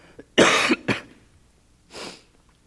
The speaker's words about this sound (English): Excuse me, I gotta clear my throat.